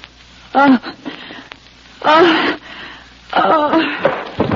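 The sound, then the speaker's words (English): A voice pants heavily and audibly in uneven bursts, short huffing breaths with a voiced edge, clustered into three loud bouts separated by brief pauses. “Start panting.”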